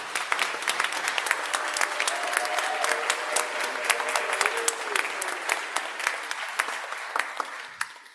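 A group of people applauds the graduates and music helpers at a 10 o'clock service, steady for several seconds, a dense patter of many hands clapping at once, sustained throughout before tapering slightly at the end.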